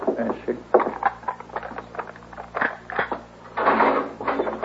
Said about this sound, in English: unlock the door.